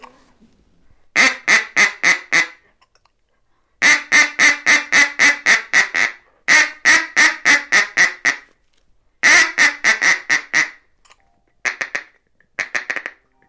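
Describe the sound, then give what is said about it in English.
A brand-new, fairly inexpensive duck call blown in a feeding chuckle: quick runs of rapid, clucking quack notes, five or more at a time, separated by short pauses. Loud, with no voices. “That's a feeding chuckle.”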